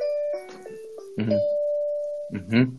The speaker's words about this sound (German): Das war bestimmt dann jemand die Klingel wegen Halloween.